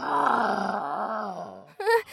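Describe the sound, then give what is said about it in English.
A voice imitates the growl of the monster El Cucuy: a long, low, wavering groan lasting well over a second, then a brief pause and a short, higher-pitched vocal snarl at the end. “Then I heard El Cucuy growling.”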